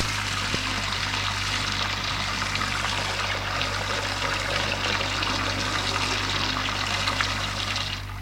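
Water runs steadily from a shower in a bathroom while someone showers, a dense, even hiss of spray that holds at a constant level throughout, with no voices.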